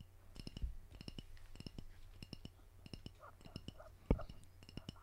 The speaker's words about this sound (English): Is that some dude tapping his fingers on a twisted tea bottle?